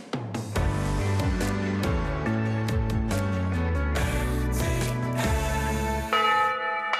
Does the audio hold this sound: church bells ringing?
yes